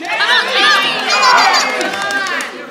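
A large baseball crowd cheers for the batter Casey, a dense wash of overlapping shouts and whistles, loud and sustained without a break, with excited voices rising and falling throughout.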